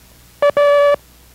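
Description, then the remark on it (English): A steady, mid-pitched Morse code tone sounds a short dot followed by a longer dash, forming the letter A, called Abel. The beeps are loud and clear, with silence on either side. “You see, in this group of characters, we have a combination of dots and dashes, where in the previous groups, there were either all dots making up the characters, or dis, as we refer to them by sound, or dashes, or das,”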